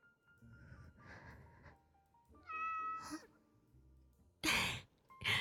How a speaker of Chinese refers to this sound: 小猫好像吃醋了，它们不喜欢别人离你太近呢。